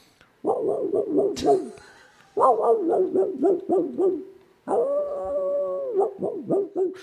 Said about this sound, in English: I was picturing maybe like a gruff terrier of some type. No, it's a hound in the distance.